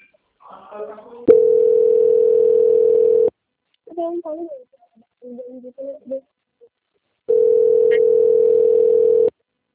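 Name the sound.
telephone tone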